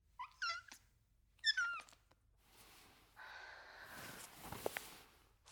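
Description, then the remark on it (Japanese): A cat that has got indoors from outside at New Year meows twice, two short rising-and-falling cries about a second apart, followed by soft shuffling and rustling noises with no one speaking. “ねえ、君、どこから入ってきたの？こんな年明けから。悪い猫ちゃんだね。”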